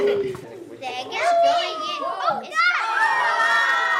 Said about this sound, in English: late afternoon at Rosa Parks Elementary School in Berkeley, California. A few dozen kids swarm in from the playground for some hands-on experiments about pressure.